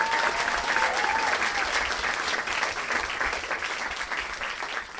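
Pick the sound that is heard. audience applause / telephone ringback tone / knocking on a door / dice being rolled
audience applause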